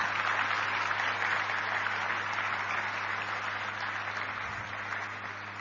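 Steady audience applause at a Go Green conference in Prashanti Nilayam, a dense wash of many hands clapping at once, holding a fairly even loudness before easing off slightly toward the end, with no voices over it.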